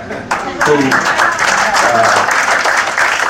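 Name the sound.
audience applause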